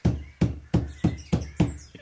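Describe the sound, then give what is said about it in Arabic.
Six firm knocks on the wooden door of a house in a fairly even rhythm, each a dull low thud with a short ring after it, then a softer final tap; faint bird chirps sound in the background. “هل أقرع الباب؟”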